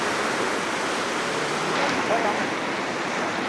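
rushing river water

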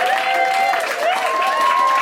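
audience applause

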